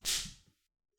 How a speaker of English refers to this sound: Slap, S-L-A-P, is when you hit someone with an open hand, so you don't have a closed fist, your hand is open. And usually you slap someone on the cheek or on the face. And a slap sounds like this.